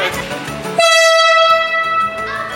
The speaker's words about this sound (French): Là, c'est le sifflet du train, d'accord ? Je vous ai demandé de boucher les oreilles parce que ça siffle vraiment très fort. C'est une particularité de nouveau française. C'est une exigence de la part des Français d'avoir un sifflet 2 tons.